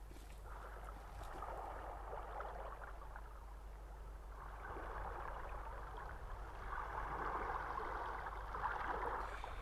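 sea waves at night

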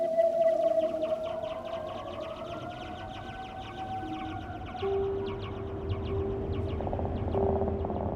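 whale song

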